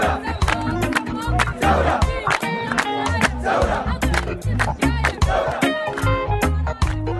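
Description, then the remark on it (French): A large crowd at a night-time revolutionary sit-in on a square in Sudan chants loudly and steadily in unison, with sharp rhythmic beats, like clapping or drumming, keeping time beneath the massed voices throughout. “La nuit tombe sur la place et comme chaque soir depuis un mois, le sit-in se gonfle d'une foule déterminée.”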